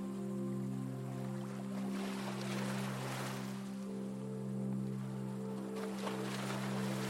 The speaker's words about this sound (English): And small waves are lapping the shore.